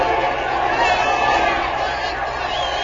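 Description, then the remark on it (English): A large baseball stadium crowd roars and cheers in a steady, dense wall of noise that holds at full strength the whole time, many voices blending, as Green walks to first on ball four in a tied game and Dick Cole comes up to bat. “The crowd's going wild.”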